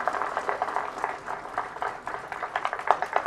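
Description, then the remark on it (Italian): A crowd applauds the third-place winner at a drawing competition prize ceremony: dense, steady clapping made of many overlapping claps, holding an even, moderate loudness throughout with no voices on top. “Un applauso, gli diamo il suo disegno.”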